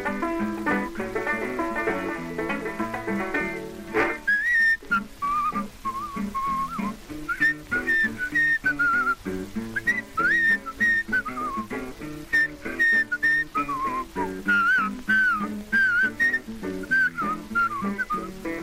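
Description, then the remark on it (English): A piano plays a lively, bouncy ragtime-style intro, then a clear whistled melody of the Madison Street Rag rides over the steady piano accompaniment, prominent, with no talking. “I said, "I'd play it if you whistle it." He said, "Well, I'll whistle it."”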